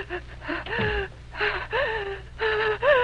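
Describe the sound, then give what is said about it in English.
A person lying on a cot bed in the corner of a remote farmhouse kitchen coughs and struggles for air, letting out a quick series of six or so strained, wheezy gasps with raspy, voiced edges, fairly loud and with no talking. “On a cot bed in the corner, someone is coughing and gasping for breath.”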